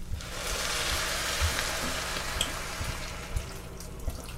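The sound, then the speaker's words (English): Cold water pours into a hot pan of cooking lentils, setting off a loud, steady sizzle and hiss with a few soft low bumps. No one speaks. “So now I'm going to add the cold water.”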